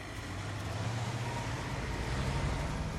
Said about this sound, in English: The van drives away, followed by a police car.